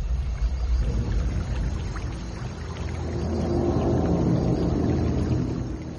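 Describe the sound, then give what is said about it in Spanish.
Water splashes and sloshes steadily for several seconds, a dense, rumbling wash of sound that swells slightly midway, with no voices present. “Pensaba que era un chapoteo, pero no veo nada.”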